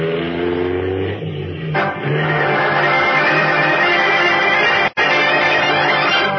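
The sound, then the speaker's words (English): Batman's powerful car engine revs hard and accelerates with the accelerator pressed to the floor, its roar rising in pitch through gear changes, loud, as the car hurtles over a twisting road in pursuit, with a brief cut near the end before the engine noise resumes. “Pressing the accelerator down to the floor, Batman sends his powerful car hurtling back over the twisting road in pursuit of Big George Latimer.”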